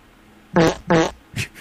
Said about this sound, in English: Someone just farted an uncountable number of times in the studio. And it wasn't me.